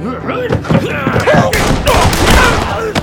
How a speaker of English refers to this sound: All four men went down with fatal gunshot wounds.